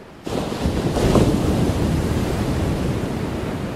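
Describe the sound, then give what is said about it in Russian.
A huge ocean wave on a tropical coast surges in at great speed with a sudden roar, building to a heavy crash and then churning on as a loud, sustained rush of surf with no voices. “До того мгновения, как волна накрыла ее, прошло всего несколько секунд.”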